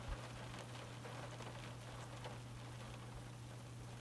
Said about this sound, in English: It's raining harder now.